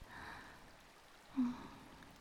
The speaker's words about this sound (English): Listen to the soft splashes and ripples of the water around your feet. And come snuggle in beside me, right here, by the calming bubbles, where the pool's a little deeper.